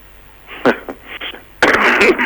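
A person coughs: a couple of short, rough bursts, then a louder, harsher fit of coughing that runs to the end.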